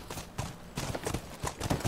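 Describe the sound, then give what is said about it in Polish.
Horse hooves clip-clop in a steady, uneven rhythm, several quick knocking steps, moderately loud with no talking over them. “Patrzcie, jakie sprytne te koniki nasze.”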